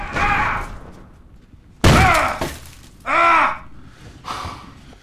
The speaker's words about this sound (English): John tries in vain to shoulder barge the door open.